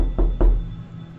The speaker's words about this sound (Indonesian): Sekitar jam 1 malam, gue kebangun. Gara-gara ada yang ngetok pintu beberapa kali.